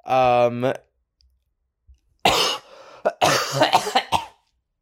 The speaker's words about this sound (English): Well, I don't know what that cough was about.